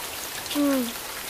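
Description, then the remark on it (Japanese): Steady rain patters and hisses across surfaces throughout, a dense, even wash of drops, with a brief voiced exclamation rising over it in the middle. “あ、雨だー！”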